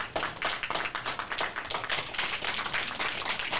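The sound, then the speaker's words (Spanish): An audience applauds steadily, many hands clapping in a dense, crackling wash with quick overlapping claps and no one speaking over it. “A todos ustedes, claro, los aplausos.”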